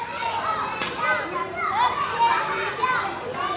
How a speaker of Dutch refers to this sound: Ik sta op het schoolplein waar ik zelf zo'n 20 jaar geleden ook speelde. De kinderen rennen door elkaar in de kleine pauze.